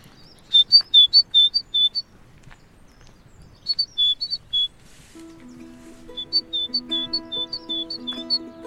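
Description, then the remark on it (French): A tit chirps in three quick runs of bright, high-pitched notes, clear, with a steady low tonal hum joining under the last burst. “Oh, une petite mésange.”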